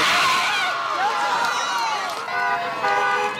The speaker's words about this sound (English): When the guilty verdict came back, you could hear the crowd outside when you were in the courtroom cheering.